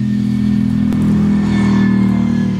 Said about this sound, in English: Well, I think it's probably got eight cylinders going in a V, which I very much approve of.